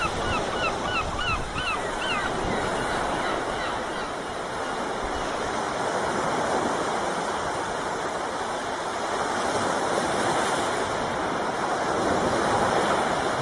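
Steady roar of sea surf washing onto a shore on the coast at L'Escala, broad and continuous, with bird calls like gulls crying repeatedly in the first few seconds. No one speaks.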